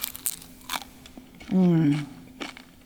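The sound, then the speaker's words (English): Crisp crunches from biting into a fried lumpia, a hand-rolled egg roll, with a few sharp crackly bites spaced apart and a short appreciative hum of pleasure in the middle. “Crunchy, sweet, and savory.”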